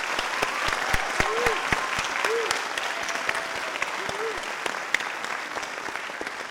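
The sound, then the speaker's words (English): Sustained applause from a large audience at a graduation ceremony for PhD students, dense steady clapping at a moderate level, with a few brief vocal whoops rising above it near the middle. “One more round of applause for our PhD students.”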